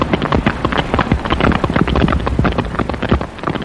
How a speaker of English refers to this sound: then when we're way up at the head of the Gulf of California and we're listening to the sperm whales, they're a completely different sound. They're like the snapping of fingers.